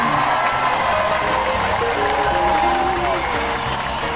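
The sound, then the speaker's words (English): A live studio crowd applauds steadily at the start of a Talk Zone show, a dense, even wash of clapping with a few cheers and voices mixed in, holding a constant loudness throughout. “We've got a live crowd today,”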